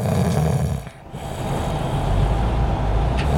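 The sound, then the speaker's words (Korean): Loud, rasping snoring from a man on a commuter bus heading to Jongno, droning almost without pause over the steady low rumble of the moving bus, with one brief dip early on. “그래서 버스는 늘 각종 코골이 소리로 가득합니다.”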